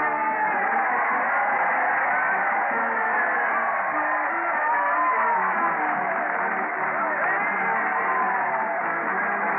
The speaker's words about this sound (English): Listen to that crowd cheer as Fred Allen leads the parade to the old Town Hall. Fred's conducting the band with a big sword, followed by those dull blades of the boards, the mighty Allen art players. Let's join the shouting throng.